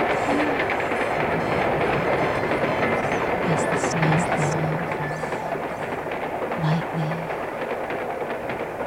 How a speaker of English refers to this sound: the train moves through this wintry wonderland.